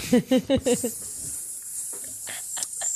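A few quick voiced syllables give way to several short, breathy hissing bursts, a person imitating a hiss with their mouth, moderately loud over a faint steady background hiss.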